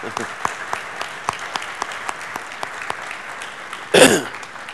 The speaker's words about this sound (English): So let's give all spouses of public servants a round of applause.